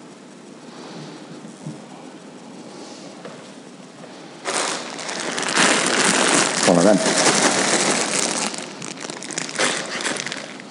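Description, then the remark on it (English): A plastic outer wrapper from a six-pack of Walker's crisps, with its UK copyright and recycling symbol still visible, crinkles loudly in a sustained, crackly rustle for several seconds, following a few softly spoken words. “The outer wrapper from a six-pack of Walker's crisps, the UK copyright and recycling symbol still visible.”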